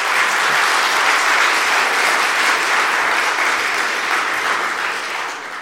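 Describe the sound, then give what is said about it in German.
Sustained applause from an audience thanking a speaker after a talk on programming and a question session, a dense, steady wash of many hands clapping at a fairly loud level, easing off slightly toward the end. No voices are heard over it. “Ein Beifall, ja, bitte.”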